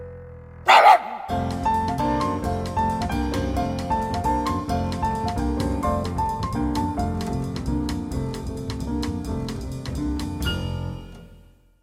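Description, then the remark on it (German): A pug named Krümel gives one short, loud bark on command, and then steady, rhythmic music starts and keeps playing for about ten seconds before fading out. “bringt ihm gerade das Bellen auf Kommando bei, ganz ohne Säge. Dafür mit Zauberstab und viel Geduld. Abracadabra, Murmel, Turmel, wie spricht der Mops?”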